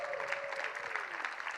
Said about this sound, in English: Awesome, give them another round of applause.